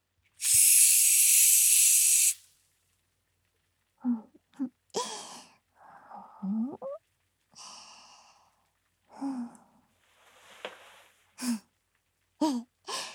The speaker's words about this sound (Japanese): 今度ははっきり聞こえたかしら。パチッパチッパチパチッって手の中のスポンジが弾ける音が。正解は炭酸泡でした。